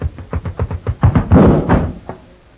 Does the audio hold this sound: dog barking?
no